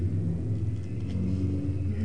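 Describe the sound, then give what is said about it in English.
Low engine rumble from motorcycles outside, a steady throaty drone with slight revving swells, fairly loud and continuous, with no voices over it. “I'd like to see a judgment on those motorcycles.”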